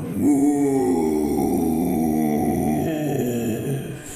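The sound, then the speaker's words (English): Dogzilla, an ancient giant colossus with a great furry coat, lets out a long, deep, rumbling icy roar that holds steady and loud for about four seconds, with a growling, groaning texture and no talking over it. “But then it shakes its great furry coat and gives an icy, stinky roar.”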